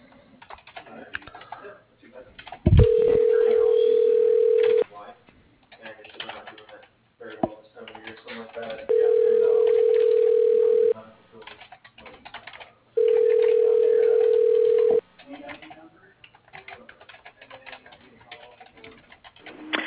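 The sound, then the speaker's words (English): A phone line rings three times in steady two-second tones with pauses between, heard over a telephone connection as an automated company phone system transfers the call, alongside faint background clatter and a brief click near the start. “Please hold while I transfer your call to...”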